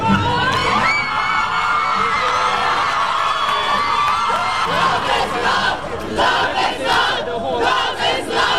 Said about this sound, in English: Crowds on the steps of the Hall of Justice in Port of Spain, the capital city of Trinidad and Tobago, erupted in cheers on learning that the High Court had struck down the Caribbean nation's archaic anti-gay sodomy statutes.